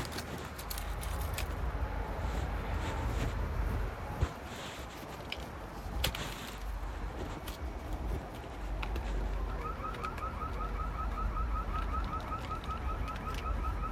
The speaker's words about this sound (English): There goes that alarm again. There's been going alarm going off recently. I don't know why it's going off. In the backyard somewhere.